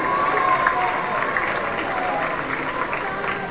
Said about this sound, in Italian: 6 e 7 giugno, Uniti per Calvi. È la volta dell'assessore uscente Remo Cipro, un grande applauso.